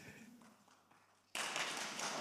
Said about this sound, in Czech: Milé sestry, milí bratři, buďte srdečně vítáni. Můžeme si sednout v novém roce 2023. To stojí za potlesk.